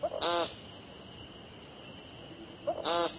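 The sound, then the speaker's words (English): An American woodcock gives two loud, nasal, buzzy peent calls about two and a half seconds apart. A soft, short note comes just before each one, with a quiet steady background between. “Their brown and black speckles camouflage them perfectly until they sing, which sounds less like singing and more like yelling the word paint over and over.”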